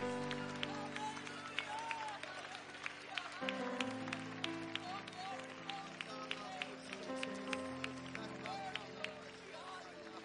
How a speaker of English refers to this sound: Come on, let's do that some more. Would you clap your hands some more?